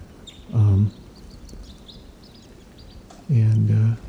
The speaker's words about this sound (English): Birds are in the treetops above the nets, and they're calling slightly here.